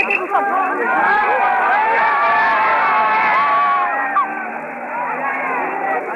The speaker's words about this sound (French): La foule se disperse après avoir hué une dernière fois.